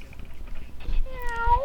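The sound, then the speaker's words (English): A person imitates a cat with a single drawn-out, fairly loud meow near the end, its pitch bending and sliding downward over a low background rumble. “They got a pretty good meow, though.”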